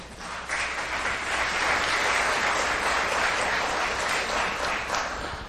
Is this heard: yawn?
no